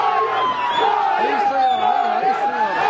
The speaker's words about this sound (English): Palestinians yelled, "Traitor!" and threw eggs at his motorcade as he entered Bethlehem this Christmas.